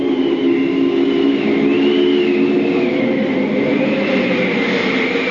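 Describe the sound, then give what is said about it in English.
A sudden, strong gust of wind roars steadily, with a low droning rumble and high howling tones that rise and fall for several seconds, with no voices. “But goodness me, what force does the wind get up in a few minutes? What a tremendous gust.”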